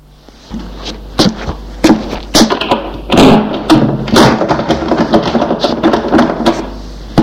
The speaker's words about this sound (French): Et la porte s'est refermée.